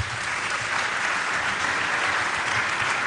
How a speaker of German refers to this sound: So, Ihre 5 Minuten sind vorbei. Einen Applaus für diese Aufgabe.